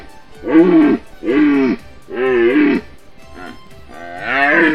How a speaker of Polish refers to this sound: Kaśka, nie bój się, to ino jeleń.